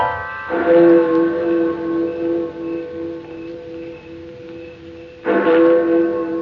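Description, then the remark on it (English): A village's deep, booming London-style cathedral clock bell strikes twice, several seconds apart, each loud toll leaving a rich, humming ring that hangs and slowly fades before the next strike. “Let that there clock become a genuine London-style cathedral clock.”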